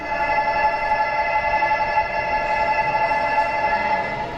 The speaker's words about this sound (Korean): 집에 가는 전철 들어오나 보다.